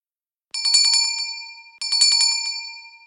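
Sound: doorbell ringing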